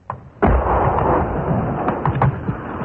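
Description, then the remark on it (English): A heavy incoming artillery blast from Argentine batteries around Stanley during the Falklands conflict hits close by with a sharp crack, then a long, loud rolling rumble. A faint thud comes just before it. No voices are heard. “More incoming gunfire from Argentine batteries around Stanley, keeping everybody's heads down.”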